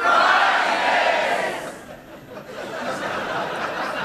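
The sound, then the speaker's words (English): A studio audience shouts "Prizes!" together in one loud, roaring burst, answering the host's question of what points mean, that fades after a couple of seconds, followed by a softer second swell of mixed voices and cheering. “I'm not going to ask the audience what do points mean, because it always ends with mindless, idiotic shouting.”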